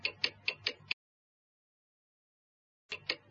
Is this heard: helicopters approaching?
no